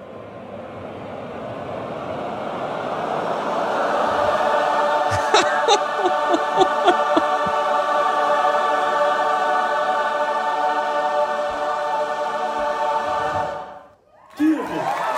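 A choir of many voices holds a dense, wavering cluster of chaotic notes, then glides into a steady, sustained D major chord, ringing loud for several seconds before breaking off abruptly.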